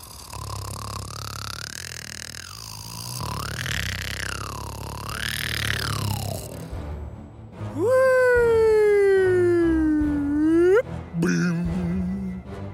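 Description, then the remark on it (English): A voice imitates snoring with exaggerated noises: rising and falling wavering tones, then a long, loud, drawn-out groan that sinks low and swoops sharply upward before cutting off. “I have another way to snore.”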